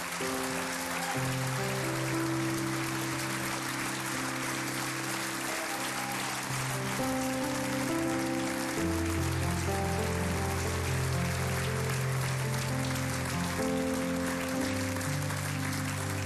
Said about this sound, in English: If you serve children, youth, or young adults, will you stand up to your feet right now? You can clap for them. You should clap for them.